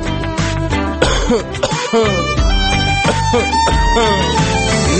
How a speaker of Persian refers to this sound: میگیم به شما که میدونیم این روزا سرفه هاتون هر روز بیشتر و بیشتر و بیشتر میشه.